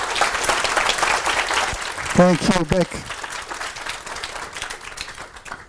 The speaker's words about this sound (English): And they even launched their first game, Hauma, this September, so let's give a huge applause for that, and also our speaker,